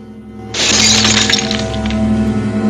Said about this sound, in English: O'Hara picks up a leaking bottle. He shrugs off a restraining hand, finds another bottle, and smashes the two bottles together.